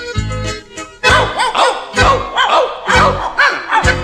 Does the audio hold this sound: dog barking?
yes